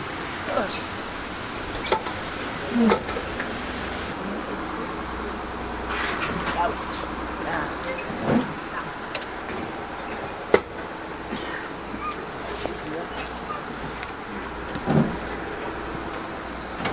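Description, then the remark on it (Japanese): Steady engine rumble and hiss of a bus interior, with scattered clicks and thumps as passengers move toward the door and step off, faint voices murmuring in the background. “バス降ります。”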